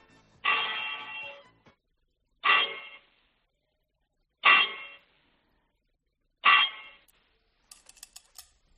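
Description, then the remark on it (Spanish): Four loud metallic bell clangs in Cornago, La Rioja, struck at a steady, unhurried pace about two seconds apart, each with a bright ringing decay, followed by faint high tinkling at the end. “Sí, sí, está la repetición de las campanas, claro.”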